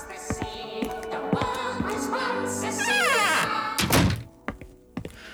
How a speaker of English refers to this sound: Hang on. I'll close the door. Can't concentrate with those bloody elves.